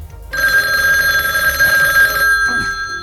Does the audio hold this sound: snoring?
no